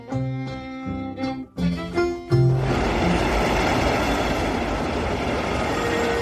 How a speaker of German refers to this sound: Wien, Hauptbahnhof. Züge fahren ein. Menschen laufen zu den Bahnsteigen, um ihre Züge zu erwischen.